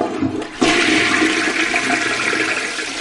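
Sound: toilet flushing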